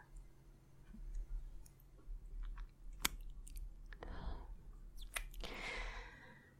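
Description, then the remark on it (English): Several wet kissing smacks, made against the back of a hand between the thumb and pointer finger with the hand held in a loose fist, pop out of a quiet, faintly humming background, with a couple of softer, breathy, lip-smacking bursts between the sharper kisses. “A trick that I saw for kissing sounds is kissing the back of your hand between like your thumb and your pointer finger, but you have your hand in like a loose fist almost, so you have that skin to play with and also that empty space.”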